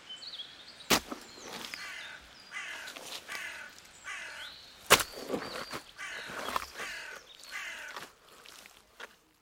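Crows caw repeatedly in a raucous, overlapping chorus of harsh calls, loud, with two sharp knocking hits cutting through the noise.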